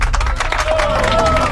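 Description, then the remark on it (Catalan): A loud, steady burst of applause from a crowd for students who spelled the word correctly in a school spelling contest, with dense overlapping clapping, some cheering, and a brief whistle-like tone rising above the noise. “Per tant, aplaudiment per tots ells, per totes elles, en aquest cas”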